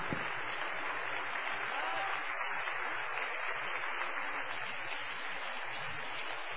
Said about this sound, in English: Oh, would you lay your Bibles down and give the Lord a hand clap in the house?